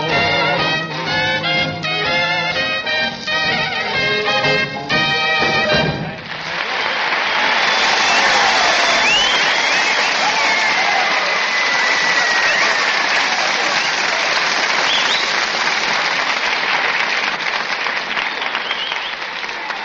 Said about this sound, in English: I don't know, those wolf calls and whistles can't be for me.